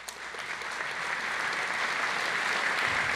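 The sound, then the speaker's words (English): A crowd applauds steadily for about three seconds when asked to clap if they voted in the election that put LBJ in office, a dense wash of many hands clapping at once at a fairly even, moderate loudness without any speech over it. “Clap if you voted in the election that put LBJ in office.”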